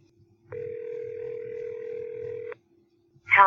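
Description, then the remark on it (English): A single steady electronic phone ringing tone sounds for about two seconds over the line as a cell phone number is called, clear and even, then stops; a voice begins just after. “Well, they both have cell phones listed in this directory, so let's try their cell phones.”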